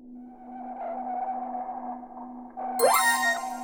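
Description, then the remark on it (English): A steady electronic hum carries a sonar-like ping tone as sensors pick up an echo, then near the end a sudden bright burst sweeps upward, loud, with no voices. “We are picking up an echo on the sensors, sir.”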